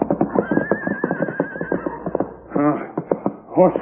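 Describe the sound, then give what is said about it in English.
A horse neighs, a long shaky whinny followed by a couple of shorter, louder snorting whinnies, with no one talking. “Horse still alive.”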